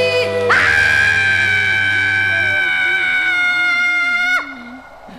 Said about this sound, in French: Je te crie dans un grand cri.